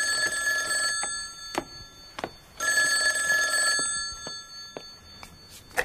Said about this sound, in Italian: Il telefono!